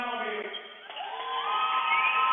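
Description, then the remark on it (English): A dense, steady roar of crowd cheering and shouting fills the space as two teams clap and jump before their lineups are introduced, with high voices rising and holding above the din and growing slightly louder toward the end. “The T-Jacks are clapping. The Malamutes are jumping. They're getting ready to introduce the two lineups.”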